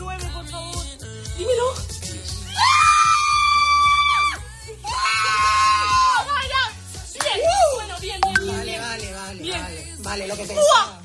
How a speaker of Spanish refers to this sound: Bueno, gritos ha habido en este caso, ¿eh? De esta chica y de su madre, necesitaba un 9 y mira, ha sacado ese 9, ¿no?